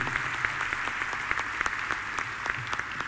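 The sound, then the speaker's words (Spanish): A crowd at a political gathering claps for Raúl Jalil of Catamarca province, a dense, continuous patter of many hands with sharper individual claps popping out, holding an even, moderately loud level throughout, with no voices. “Este es el aplauso de esta gente, compañero, amigo, dirigente.”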